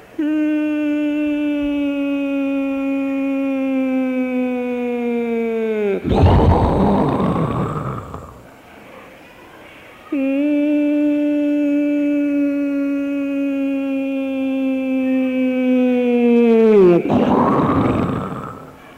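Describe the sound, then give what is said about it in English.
A voice imitates falling bombs twice, as Srila Prabhupada used to imitate the bombs in Calcutta during the Second World War: each time a long, steady, loud whine slides down in pitch at the end and bursts into a rough, noisy explosion sound, with a brief pause between. “Prabhupada would like to imitate bombs.”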